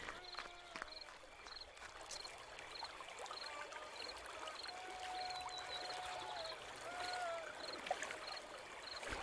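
Water flows and burbles steadily in a river in Russia, with soft splashing and sloshing as someone wades through the chilly water, a continuous watery texture with no voices.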